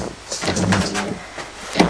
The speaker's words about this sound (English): We're shutting this drawer. Shutting the cupboard.